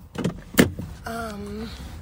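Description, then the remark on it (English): Two solid thumps and rustling as someone wearing a cone on their head climbs into their car and handles the door, followed by the steady whirring hum of a power window moving. “And that's because I tried to get in my car wearing it.”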